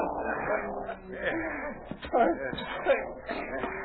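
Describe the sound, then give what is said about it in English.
A dog barks and yips in short, sharp bursts, with a couple of louder yelps standing out over a busy, murmuring background of commotion. “Take this dog away.”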